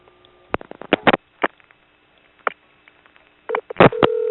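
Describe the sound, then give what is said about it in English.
Telephone line sounds during a call transfer: a quick series of clicks and dialing tones, then a short burst of keypad beeps and a steady tone at the end, heard over a phone line. “I'm gonna transfer you now.”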